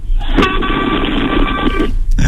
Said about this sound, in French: Voilà, je te fais un klaxon. Voilà, exactement.